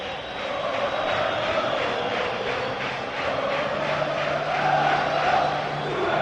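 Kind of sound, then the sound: crowd, stadium crowd chanting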